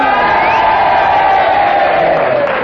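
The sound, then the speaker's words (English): A studio audience cheers loudly and steadily, a dense wall of crowd noise with scattered whoops and shouts rising above it, sustained without a break, cheering for Kenneth to show they disagree with Henry Kelly's challenge about Kenneth's charm and good looks. “And if you agree with Henry, which is a negative challenge, then you all boo, and if you disagree, you all cheer for Kenneth, and you all do it together now.”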